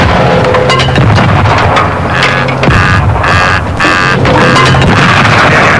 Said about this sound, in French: Voilà, et d'après mes calculs, la petite bombe que j'ai mise dans le coffre de la voiture